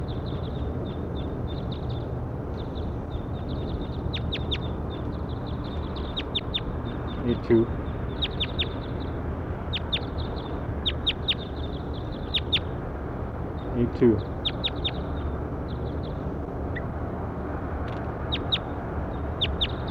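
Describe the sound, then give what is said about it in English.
Bird calls from bird 8-2: rapid, high-pitched chirps arrive in short bursts throughout, over a steady low rumble of background noise, with a couple of louder low thumps partway through. “Pointed at bird 8-2.”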